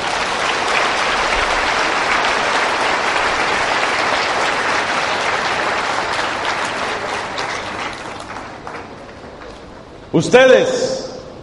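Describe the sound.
Dense, steady applause from a large audience of young people applauding themselves fills about eight seconds, then thins out and fades, followed by a man's voice starting to speak.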